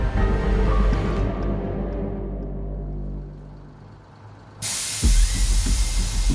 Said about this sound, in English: Kevin McKay opens the doors to School Bus 963.